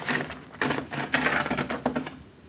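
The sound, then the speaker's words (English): A heavy wooden carriage house door is hauled open, grinding and creaking in a series of scraping, rattling bursts over a low, steady groan, with no voices. “Help me open this door, please.”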